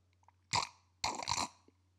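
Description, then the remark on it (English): Two loud slurping sips of Evan Williams bourbon, a short one followed by a longer drawn-in gulp, with quiet pauses around them and no talking. “I'm going to take a fine sip of...”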